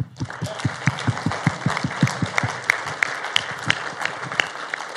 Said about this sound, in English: So if it is your first time, we like to clap.